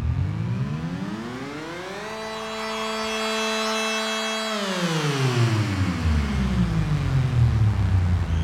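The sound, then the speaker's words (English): An eerie science-fiction-style siren sound effect at the start of a song climbs in pitch, holds a steady wailing tone, then slowly winds back down, with a rumbling noise beneath it that grows louder as the siren fades. No one speaks. “I wanted a sound of a siren that was kind of bone-chilling.”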